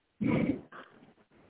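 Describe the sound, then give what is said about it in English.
A sleeping dog lets out a loud, rumbling growl-like grumble, followed by a few softer, muffled snorts and murmurs, the drowsy kind of noises a dog makes while sleeping. “This is my dog.”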